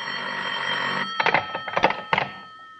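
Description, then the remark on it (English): A telephone bell rings with a steady, bright metallic jangle for about a second, then breaks into three shorter rattling bursts before fading. No one speaks. “Only mistake I made was putting in a telephone. It spoils a lot of things.”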